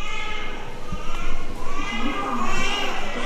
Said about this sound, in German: Eine Babyklinik in Yanjiao in Nordchina.